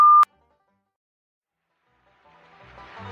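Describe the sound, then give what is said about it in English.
A single short, loud answering-machine beep sounds at the very start, followed by a long silence before a faint, rising wash of background noise creeps in near the end. “Please leave a commercial after the beep.”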